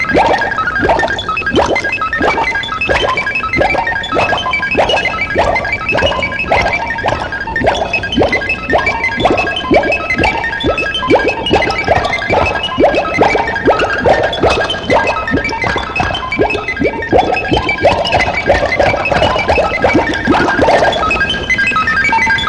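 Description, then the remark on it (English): A robot mops the studio floor: a loud, busy cacophony of clattering, rhythmic mechanical thumps and tonal beeps and whirs that keeps up a steady pace for about twenty seconds, with no talking. “Hey, like, take this mop and clean up the mess in the studio, okay? Mop your way back here.”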